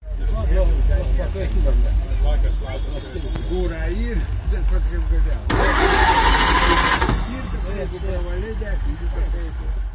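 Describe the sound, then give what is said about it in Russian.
The starter of an American 1929 Reo vintage car at a vintage car rally cranks its engine over steadily, with a louder rough burst of engine noise midway through, while people talk the whole time. “И в его возрасте достаточно просто быть, чтобы все вокруг замерли, переспросили друг друга, не поверили в дату рождения и остались слушать стартер.”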